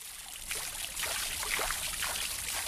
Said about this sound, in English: For Carey, this place of marble fountains bubbling from manicured lawns and crystal chandeliers gleaming from pressed ceilings is the perfect setting for her unique enterprise.